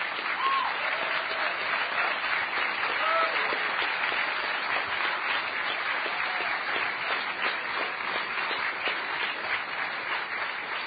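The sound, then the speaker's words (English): A crowd applauds steadily for about eleven seconds, a dense wash of many hands clapping at an even, fairly loud level, with a few faint voices calling out underneath, applauding the people in red shirts. “So with that said, I would like to applaud every one of the people in the red shirts.”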